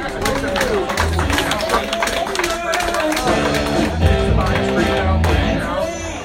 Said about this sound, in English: All right, everybody, give a huge round of applause for Ian Ellis.